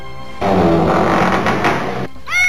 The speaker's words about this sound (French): Ah! Ça n'était qu'un chat.